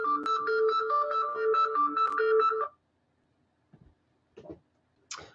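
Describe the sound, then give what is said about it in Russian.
A mobile phone left in a pocket rings, its ringtone playing a bright, repeating electronic melody for a few seconds, then cutting off abruptly, leaving near silence broken by a few faint rustles and soft knocks. “Телефон забыл убрать. Я такой в кармане остался.”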